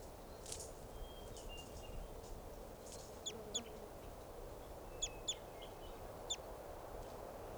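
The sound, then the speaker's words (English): A flock of about 10 or 12 type two birds, perched at the top of a tall Douglas fir by a camp, gives sharp, high-pitched chip calls, about six of them and some in quick pairs, over a steady rushing background noise. No one speaks. “Our type twos must be about 10 or 12 birds. Now they're perched up on the top of a tall Douglas fir.”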